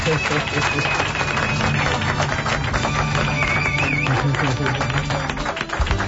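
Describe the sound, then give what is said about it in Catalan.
Dense, steady applause from an audience welcoming TV3's Maria Pau Huguet as a guest of honour fills the whole stretch at a loud, even level, with crowd voices and a few held musical tones mixed into the clapping. “Preguem un fort aplaudiment per Maria Pau Huguet.”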